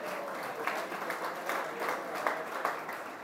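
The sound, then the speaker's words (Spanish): Steady applause from an audience at a graduation ceremony, a dense crackle of many hands clapping at a moderate level throughout, with slight swells in intensity and no voices over it. “Un aplauso.”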